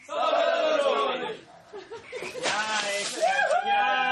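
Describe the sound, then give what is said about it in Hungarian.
Girls from Topolya shriek and squeal loudly as folk dancers douse buckets of water over them, with excited laughter and overlapping voices rising in sharp, high-pitched bursts. “Őket a fölszállott a páva kategória győztesei, a cirkalom táncosai is meglocsolták.”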